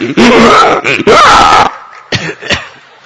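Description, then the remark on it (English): A voice imitates the demon Denukasura screaming at Balaramji: two loud, harsh, strained bursts, then a couple of short, rough grunts after a brief pause. “Screaming at Balaramji.”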